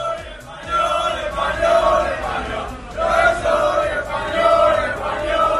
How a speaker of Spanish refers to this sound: Banderas, bufandas y gritos de yo soy español, español.